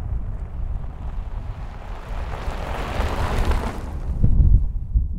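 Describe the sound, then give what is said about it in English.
A steady outdoor rumble with a broad whooshing swell as a car passes in the distance by a grassy ditch and gravel road, then fades, with low gusty wind buffeting throughout and no voices. “Just a grassy ditch, a gravel road, and the distant whir of passing cars.”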